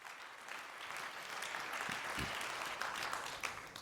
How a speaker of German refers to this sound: Bitte gebt einen herzlichen Applaus